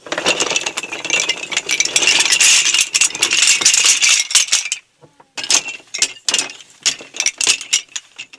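Small hard toy pieces rattle and clatter continuously and fairly loud as a cage for toy lions is built from a box full of toy animals, with a brief pause before more clicking and clinking resumes in uneven bursts. No one speaks.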